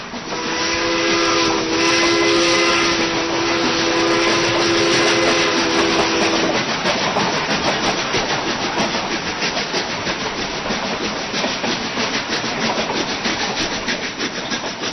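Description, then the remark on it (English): An eraser scrubs rapidly on paper in a steady, chugging rhythm that mimics a moving train, with a sustained whistle-like tone over the first half before the rubbing continues alone. “This one, that train was being propelled by an eraser rubbing on paper.”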